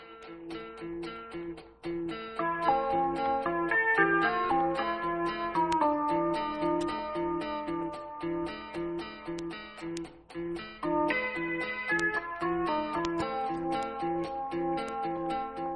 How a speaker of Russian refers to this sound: Дворцовые часы пробили полдень